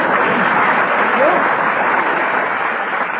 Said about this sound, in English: Everyone applaud together, please.